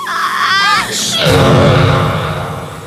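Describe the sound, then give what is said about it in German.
A loud, honking sneeze from the horned character Rocky: a wavering, rising intake of breath builds for about a second, then bursts into a sudden explosive blast that trails off in a low, droning honk. “Der Nieser weckte sogar Giganto, der in einiger Entfernung ein Nickerchen gemacht hatte.”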